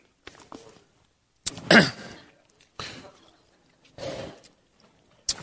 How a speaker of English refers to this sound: Need to cough. I don't need a drink.